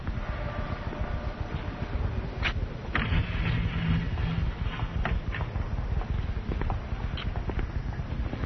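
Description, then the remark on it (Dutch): A tour bus engine runs steadily during a sightseeing drive through a large city, its low rumble filling the scene at a constant level, with occasional light clicks and knocks rising above the drone. “Zo, dan zijn we nu opnieuw in de bus.”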